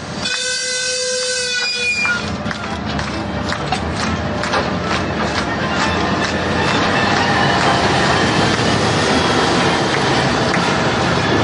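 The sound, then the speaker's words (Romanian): A locomotive carrying Moldovan President Voronin arrives at Bălțăuț for the opening of a new railway section, sounding a brief harmonic horn blast, then rolling along the rails with a steady, loud rumble and rhythmic clacking of wheels over the track. “Iar președintele Voronin, pe care erau curioase să-l vadă femeile din Bălțăuț, a venit mai târziu cu locomotiva.”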